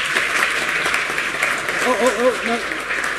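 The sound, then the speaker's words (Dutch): A crowd applauds the swearing-in of a youth council member, the dense clapping holding steady and fairly loud for the whole stretch, with a few voices briefly rising over it near the end. “Applaus.”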